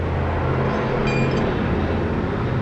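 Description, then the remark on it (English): A heavy truck rumbles past with a loud, steady low-pitched roar and broad engine noise throughout, a brief high metallic whine rising above it midway. No one speaks. “Okay, I had to wait for that truck to come by.”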